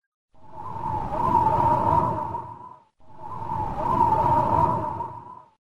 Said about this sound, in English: Whoosh! The straw house falls down.